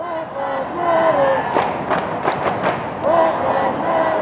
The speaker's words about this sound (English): The marchers stretched for city blocks, chanting, clapping, and cheering as onlookers waved from apartments overhead and LAPD helicopters circled in the skies.